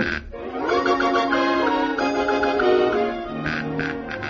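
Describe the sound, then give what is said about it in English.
A hornbill gives loud, nasal honking calls in a quick repeated series, continuous for several seconds, with a few sharper bursts near the end. “He's sure the honkinest bird I ever did see.”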